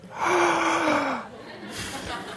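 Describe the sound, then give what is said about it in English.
A single sharp, audible gasp from a man, a breathy rush of air lasting about a second, followed by a softer exhale and faint breathing. “Now, that gasp you heard was”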